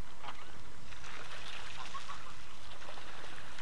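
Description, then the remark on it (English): A big swan hisses in a long, breathy, airy rush that holds steady for several seconds, with soft watery background noise and no voices. “There's a big swan here. Can you hear it? What are you? Hissing?”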